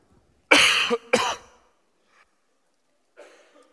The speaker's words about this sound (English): Yeah, I got too pleased with myself. Had to cough. Sorry, it's just allergies.